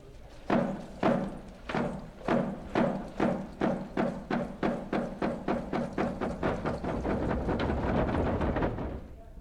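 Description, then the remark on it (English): The hollow wolf dance drum, about 3 feet high, beats steadily, starting with evenly spaced, booming strikes that gradually speed up into a rapid, continuous pounding. No voices are heard. “In the next Chinook, we'll hear more of the eagle's heartbeat in the drum of the wolf dance.”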